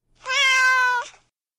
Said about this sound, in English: Meow, says the cat.